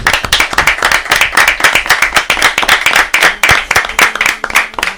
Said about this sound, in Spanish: Pues yo creo que eso se merece un aplauso, ¿no? Claro que sí.